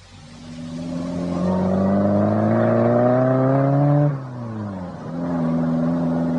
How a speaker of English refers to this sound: My car's outside. Let me drive you home.